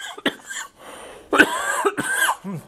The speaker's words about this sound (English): I'm not even drinking coffee and I started coughing.